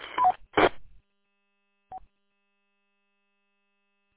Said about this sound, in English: It kind of sounds like you have a Roger beep at the end. Not 100% positive.